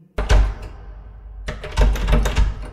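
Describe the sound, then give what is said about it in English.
A heavy, locked stone door is tried but will not open: a deep thunk, a pause, then a burst of thudding and rattling as it is shoved and jostled, fairly loud. “It's locked.”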